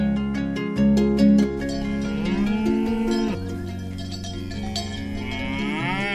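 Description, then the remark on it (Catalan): Several young A2 dairy cows, seven months old, moo loudly and almost continuously on a dairy farm in Osona, their long, drawn-out calls overlapping and rising and falling in pitch, with no one speaking. “Aquestes que són aquí són vaques A2, que són molt joves, ara tenen 7 mesos, i quan tinguin 2 anys, en principi començaran a fer llet A2.”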